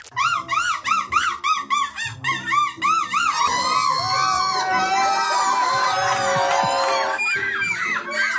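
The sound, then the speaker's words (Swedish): A person imitates a seagull with a string of loud, rhythmic, rising-and-falling squawking calls at the European Championship in seagull imitation in Belgium, then a crowd erupts in cheers and shouts while more gull-like cries continue through the noise. “Som har varit på plats i Belgien på mås-EM och lämnat den här rapporten.”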